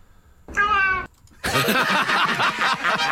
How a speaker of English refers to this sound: I don't know anymore if this is good, but it's a cat saying hello. Here it is.